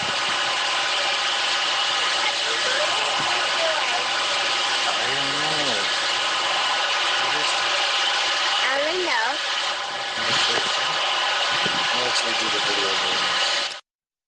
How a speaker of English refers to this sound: Did something deep in the earth before the Virginia earthquake cause the loud, strange buzzing sound the father caught on his videotape because he was already taping his little daughter?